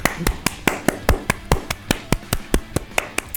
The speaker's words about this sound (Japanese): 限界を突破した TC 生に拍手を。